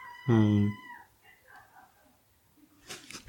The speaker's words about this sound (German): Dieses Quietschen, was hier im Hintergrund ist, sind die Katzen, die gerne raus wollen.